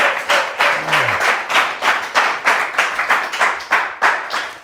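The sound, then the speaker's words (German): Steady audience applause welcoming Dragoslav Stepanović, with clapping in a regular rhythmic pulse, loud and sustained throughout, like a crowd clapping along in time. “Wie früher, ich wollte gerade sagen, so viel Applaus bist du ja gewohnt, ne?”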